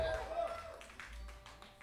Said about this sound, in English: It's nice to hear that applause.